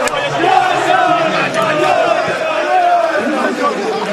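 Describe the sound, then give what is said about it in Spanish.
A large crowd of Spanish supporters chants "yo soy español, español" loudly and steadily in unison, many voices rising and falling together in a sung, rhythmic refrain that fills the whole clip without a break. “Grito de yo soy español, español”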